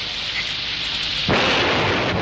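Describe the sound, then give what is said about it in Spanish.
Steady rain hiss gives way to a sudden loud rumbling crack of thunder that swells into a broad, sustained roar during a thunderstorm in the mountains. No voices are heard. “En estas montañitas debe caer cada rayo de museo.”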